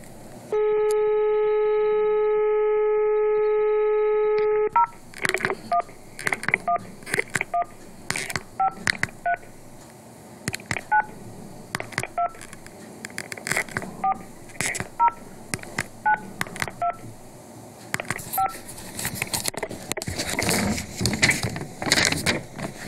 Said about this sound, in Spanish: Son las 17:55 y voy a llamar a los teléfonos que entregó la doctora Carrió.